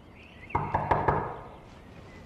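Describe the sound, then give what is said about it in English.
Four quick, solid knocks rap on a wooden door in a steady rhythm, fairly loud, then fade into a quiet room tone. “the door!”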